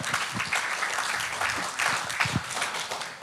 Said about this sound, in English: Come on, that deserves more applause for God, hey? Yeah.